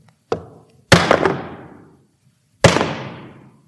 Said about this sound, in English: And they lay him down on the cross. And a soldier gets a nail and gets a hammer.